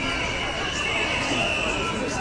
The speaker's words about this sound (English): The power of feeling here is absolutely colossal. You can hear the whistles, you can hear the shouting.